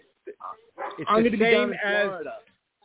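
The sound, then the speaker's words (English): A dog in a house gives two quick yips followed by a long, drawn-out, wavering bark, fairly loud. “Hold on, my dog's barking like a leather in the house.”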